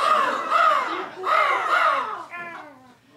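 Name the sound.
crows cawing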